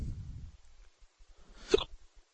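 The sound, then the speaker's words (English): A single deep, abrupt hiccup from a person who has had three beers and a full taco meal bursts out, preceded by a low, muffled rumble and followed by faint soft thumps, with no talking. “These are some deep-ass hiccups, man.”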